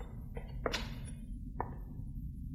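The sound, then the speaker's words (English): The door of a station ticket office being shut by the station supervisor: a couple of light knocks, then a solid thud and a later bump, over a steady low rumble of background noise. No one speaks. “The station supervisor was closing the door of the ticket office.”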